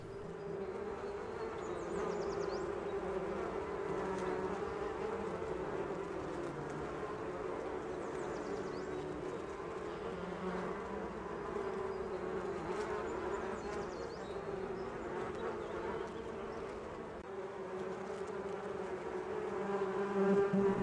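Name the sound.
bees buzzing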